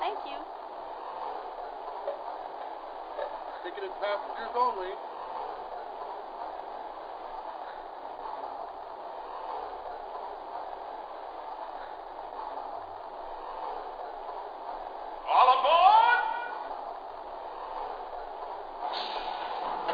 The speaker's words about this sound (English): Departing for New York on track one, train number 26, 20th Century Limited.